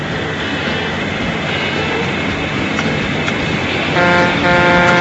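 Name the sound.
truck horn honking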